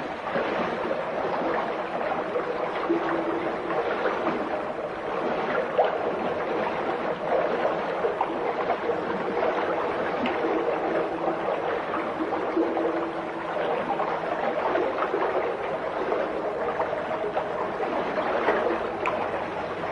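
Steady rushing and splashing of very cold water flowing underfoot in the underground channel of a qanat, where people walk in single file through cool 20 °C air; continuous, with no voices.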